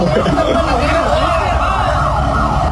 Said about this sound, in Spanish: Escuchemos el audio, por favor. Esas son las sirenas.